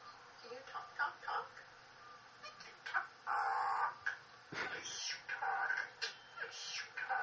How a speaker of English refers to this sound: I'm just fascinated by this bird. It's incredible. Okay. So that's the Indian Mina.